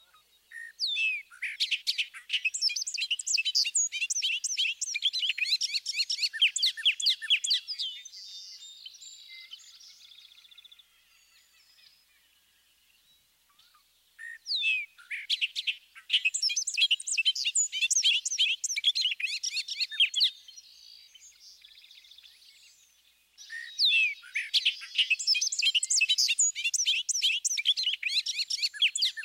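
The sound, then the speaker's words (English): A bobolink's bubbling, tumbling full song pours out in three long, high, jangling bursts separated by short pauses, clear with no other sounds or voices. “Let's listen again to the bobolink's full song, which is also given in flight.”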